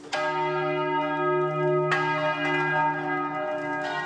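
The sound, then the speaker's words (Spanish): Church bells rung by young bell ringers in a Lenten bell-ringing contest between city churches, pealing loudly, two strong strikes about two seconds apart, each leaving a rich, ringing hum that sustains between them. No voices. “Gana la que toque las campanas durante más tiempo.”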